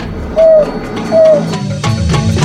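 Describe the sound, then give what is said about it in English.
A pack animal gives two ringing, bell-like hooting 'who' calls to relocate and bring the rest of the pack back together, each a short clear tone of steady medium pitch that dips slightly at the end, separated by a brief pause over faint background noise. “And the who call, which is this wonderful ringing bell sound, will travel over very large distances, several kilometers at least, and bring the pack back together.”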